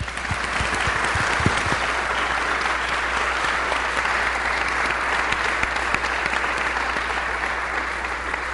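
An audience applauds someone for many years of running the yard sale, a dense, steady wash of many hands clapping that holds at an even, fairly loud level for about eight seconds, with no voices over it.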